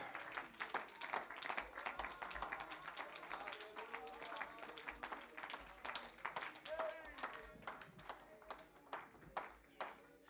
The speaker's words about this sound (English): Clap your hands unto the Lord today.